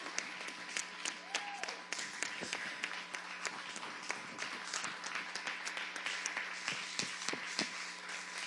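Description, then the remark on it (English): A crowd of people applauding steadily for several seconds, dense overlapping claps with a few sharper individual hits standing out, moderately loud with a faint hum underneath. “Can we give them a round of applause, please?”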